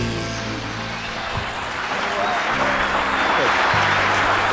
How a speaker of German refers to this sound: das Geklatsche, der tosende Applaus für wen? Ist cool.